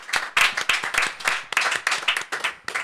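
An audience claps steadily as the percussionist and drummer of the band a band is introduced, a dense wash of many hands with sharper individual claps popping through, sustained throughout with no voices.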